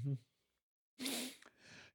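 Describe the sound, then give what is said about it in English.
A loud, drawn-out yawn: a breathy, voiced inhale that swells and then trails off into an airy exhale, following a brief vocal sound and a pause. “I yawned again. You're it's loud.”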